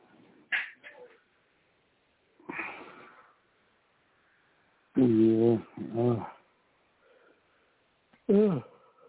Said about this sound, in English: Hey, you need to stop yawning, otherwise you're going to put me to sleep.